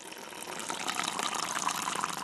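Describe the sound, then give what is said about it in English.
A steady rush of flowing water pours continuously, a dense, hissing gush of heavy runoff like rain falling instead of snow in the Sierra, sustained throughout with no voices. “Snow will become rain. And that dripping you just heard will sound more like this.”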